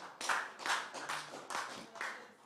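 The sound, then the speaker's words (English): A group of people at a church service clapping together in a steady rhythm, about two claps per second, moderately loud, with no voices standing out. “Whether you like clap or don't clap.”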